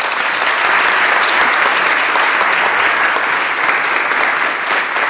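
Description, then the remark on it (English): A church audience applauds the St. John's Family Orchestra, a dense, steady wash of many hands clapping at once, loud and sustained for several seconds without any voices standing out. “Let's give them a clap.”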